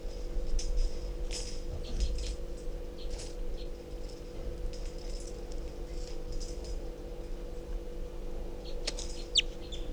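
A wild bird calls weakly at 6:24 p.m. with repeated short, high-pitched chirps in irregular bursts over a steady low mechanical hum, with no one speaking.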